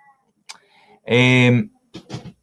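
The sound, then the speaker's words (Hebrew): A single drawn-out meow from a female cat that has come to visit, loud, lasting about half a second, with a couple of short, softer noises before and after it. “הגיע לבקר אותי חתולה.”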